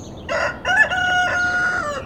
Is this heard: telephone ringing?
no